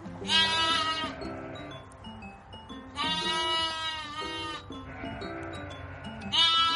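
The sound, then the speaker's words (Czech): A ewe with a lamb bleats loudly, three long wavering calls with short gaps between them, over a low steady background hum. “Slyšíte, jak bečí?”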